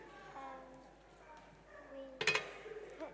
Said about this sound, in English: Right, then there's a frying pan. Now what do we do?